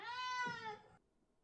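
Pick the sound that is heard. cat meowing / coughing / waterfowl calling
cat meowing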